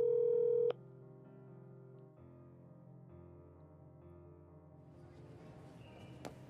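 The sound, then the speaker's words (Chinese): A phone call to a boy who is missing rings out while waiting for him to answer: a loud, steady electronic tone at the start, then a continuous low, buzzy ringback drone through the handset, with no voices. “快接电话！你到底去了哪里？接电话！”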